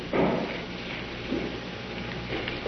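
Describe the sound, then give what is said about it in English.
A cell block door being opened to take in a prisoner: three short, muffled scraping clunks spaced about a second apart over a steady low hum, with no voices. “Taylor is opening the door for us.”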